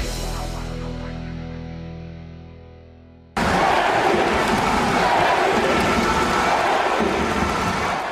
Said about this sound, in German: Eine tolle Stimmung und ständige Tschechen-Tschechen-Sprechchöre herrschte am vergangenen Donnerstag auch in der zweiten großen Prager Sporthalle der altehrwürdigen Tipsport Arena.